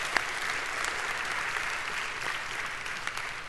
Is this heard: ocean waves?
no